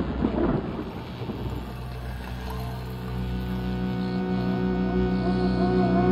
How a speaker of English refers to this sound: Clap of thunder. Yeah, right, exactly, then lightning.